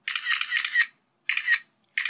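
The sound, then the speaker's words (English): Rapid bursts of mechanical camera shutter clicks with the clack of a mirror flipping up, three crisp volleys separated by short silences, no voices. “But if nothing else, now, when you hear your phone making that shutter clicking noise, you'll think about how weird it is that they had to record the sound of a mirror flipping up to tell you that your picture took.”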